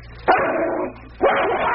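A dog gives two loud, rough barks, each drawn out into a harsh, growly burst, with a short quiet gap between them and no talking.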